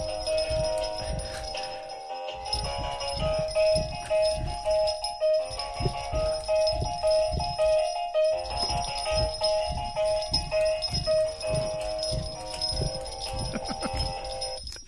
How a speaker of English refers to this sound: The quiet thumping that you hear is Snoopy thrashing around on the table.